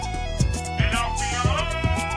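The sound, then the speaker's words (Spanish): A knife grinder's bright panpipe whistle melody runs up and down over a music track with steady thumping beats, loud, with no one talking; it is the jingle of an advert for El Afilador orujo liqueur from Galicia. “Llega el afilador, tu momento del día.”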